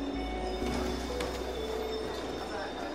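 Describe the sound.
An S-Bahn commuter train in Germany rumbles steadily, its low drone mixed with faint metallic whines and clatter as it rolls into a station, with murmuring voices in the background.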